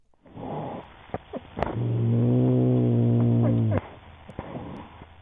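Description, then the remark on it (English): A cat hiding under a car in a suburban neighborhood of Athens, Georgia lets out a low, drawn-out growl at a dog, lasting about two seconds and fairly loud, recorded by a camera on its collar, with faint rustles and scrapes before and after it. “Here, a cat hiding under a car growls to scare off a dog.”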